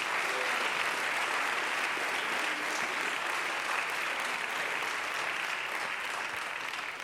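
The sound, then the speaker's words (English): A church audience claps together in response to the preacher's call to clap and bless his name, a dense, steady roar of many hands, sustained at full strength for several seconds before easing slightly at the end, with no voices standing out. “Clap your hands to that and bless his name.”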